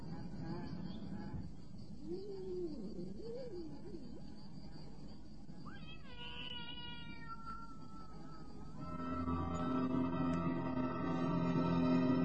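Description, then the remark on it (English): A cat meows in drawn-out, wavering cries over a low background rumble, followed by higher sharp mews, then a louder sustained tonal droning builds toward the end. “He had heard the cat.”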